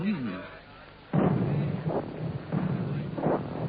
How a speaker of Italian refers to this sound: Questi sono i vostri cannoni. No, questi sono quei bastardi d'inglesi, non noi scozzesi. Ma non ci spareranno mentre voi siete qui? Non ci far conto, amico, è su noi che stanno tirando.